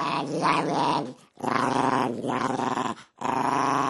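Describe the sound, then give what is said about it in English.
A Maltese dog growls in three long, rumbling bursts separated by brief pauses, fairly loud, with a harsh, gritty texture and no other sounds. “is a dog, Chuchi, the Maltese.”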